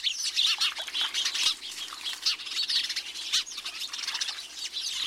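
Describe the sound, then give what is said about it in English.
House sparrows chatter busily at a bird bath, their chirps overlapping while wings flutter and splash in shallow water as they drink and bathe. The bustle is continuous and lively, with no voices. “These chattering, gregarious house sparrows may be the first to arrive.”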